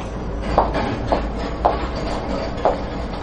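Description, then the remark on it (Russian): An armchair is moved by a person, dragged across the floor, a continuous rough scraping rumble broken by four evenly spaced bumps as it jolts along. No one speaks. “Но я кресло двигаю.”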